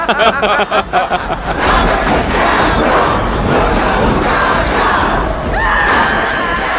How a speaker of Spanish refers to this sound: Yo gritando cuando me querías quitar el móvil.